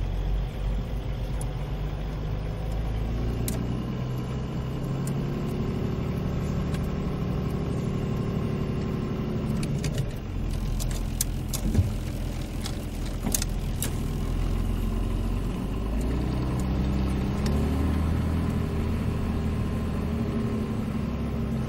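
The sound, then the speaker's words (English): A camping car's engine runs steadily throughout in Belgium, a low rumbling drone with shifting tonal hum as it revs slightly, plus occasional clicks and rattles; no one talks. “Listen to this engine, man.”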